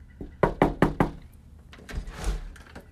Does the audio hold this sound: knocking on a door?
yes